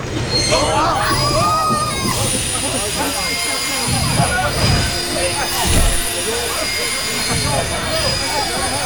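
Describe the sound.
A train rolls steadily along the rails with a constant loud rumble, thin high-pitched wheel squeal ringing over it, while voices talk indistinctly underneath throughout.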